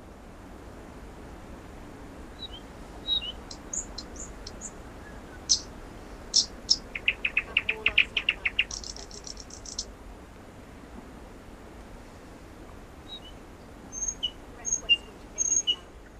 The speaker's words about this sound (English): What you're listening to right now is the sound of a thrush nightingale in Poland.